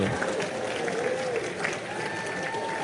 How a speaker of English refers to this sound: Yeah. I mean, yeah, she should get applause. She married me, you know.